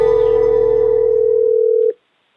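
A single steady telephone ringback tone, an outgoing call placed by Radio 1's Denis Saudič Show during a 28-hour charity marathon, holds loud and even for nearly two seconds, then cuts off into silence. A low hum sits beneath it.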